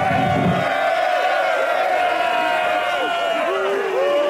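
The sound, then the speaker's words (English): A large crowd cheers and whoops loudly and continuously as a king gives his blessing to young lovers to seal their union, joining the Irish and the people of Gwynedd; many overlapping voices rise and fall in excited shouts for the whole stretch, with a low roar underneath. “These fools cheer that some lout has granted permission to ravage my sister.”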